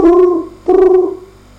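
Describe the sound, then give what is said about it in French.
A blacksmith, at the door of his house at 11 at night, imitates a cricket's chirping with his voice: two loud, sustained, tonal calls separated by a short pause, the second trailing off softly; no speech. “Alors, il imita le chant du grillon.”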